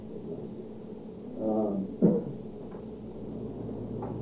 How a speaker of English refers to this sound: I'm going to open the door again. Please.